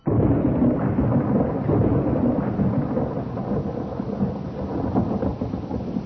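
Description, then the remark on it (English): Steady heavy rain pours down while a deep, rolling thunder rumble fills the background, loud and continuous for the whole stretch with no voices. “Like vultures on a dying lamb, we came down in rain and darkness on a coffin in the lonely rustic graveyard of Glencourse.”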